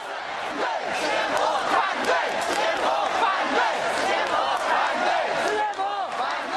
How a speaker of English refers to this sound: It looked like a protest march, but they were afraid to call it that. They called it a collective walk into People's Square in Shanghai.